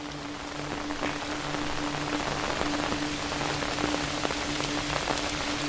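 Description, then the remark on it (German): Steady rain patters on umbrella fabric, a dense hiss of countless drops with sharper individual taps scattered throughout, even and unbroken. A faint low hum runs underneath. “Das monotone Tröpfeln des Regens auf dem Stoff deines Schirms wirkt wie eine beruhigende Melodie, die dich begleitet.”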